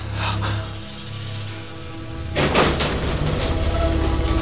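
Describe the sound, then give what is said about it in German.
A heavy sliding wall, a sliding gate, grinds aside to reveal a workshop behind it: after a low rumbling hum, a sudden broad rasping scrape continues as a steady, loud grinding rumble to the end. “Die Wand! Sie schiebt sich zur Seite.”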